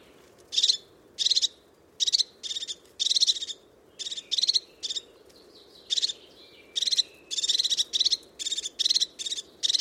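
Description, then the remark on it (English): A crested tit repeatedly gives short, sharp, high-pitched trilling calls in quick succession, clear, over a low steady background rumble. “The call of the crested tit, very sharp, very precise.”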